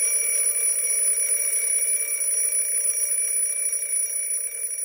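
An old alarm clock rings loudly and without pause early in the morning, at a quarter past six, a shrill, rattling metallic bell that holds steady for the whole stretch with no voices.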